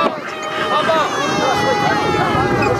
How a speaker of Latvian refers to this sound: Laiva motoru rūkoņa, bērnu raudas, palīgā saucieni – tā joprojām ir realitāte vidusjūrā, kur aktīvistu kuģi aizvien glābj migrantus.